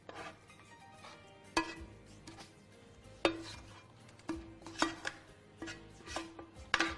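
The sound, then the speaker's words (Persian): A spoon scrapes and pushes soft onions, fried with almonds and garlic, around a tart shell lined with Parmesan for an onion and almond tart, with soft rubbing between several sharp, irregular clinks against the dish, fairly quiet, with no talking. “حالا با همین قاشق اینو پهنش میکنیم، داریم تارت پیاز درست میکنیم.”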